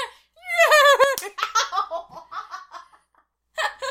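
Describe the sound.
A person imitates a horse's whinny, a loud, quavering vocal sweep that drops in pitch, followed by choppy, laughter-like bursts, a short pause and another brief burst.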